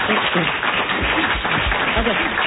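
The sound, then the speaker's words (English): An audience at a public comment meeting about Pacifica applauds steadily for a couple of seconds, a dense, sustained patter of many hands, with some voices murmuring underneath. “I understand the impulse to applaud, but we want to get all the comments out.”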